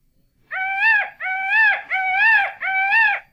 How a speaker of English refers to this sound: The peacock.